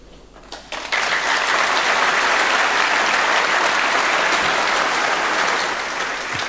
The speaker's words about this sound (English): No, we've applauded now. That's the end.